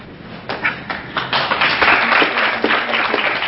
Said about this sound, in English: Thanks for clapping. I didn't say anything.